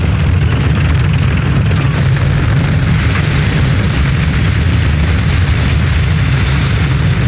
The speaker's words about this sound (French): The explosion eliminates the oxygen, which is what kills the fire. But the nitro drum has to be placed in exactly the right position.